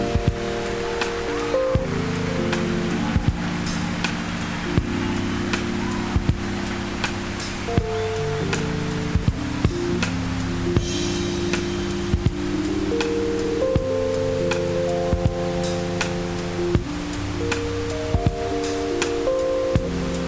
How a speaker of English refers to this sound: Obvious with pink noise. Again, just 30 decibels below.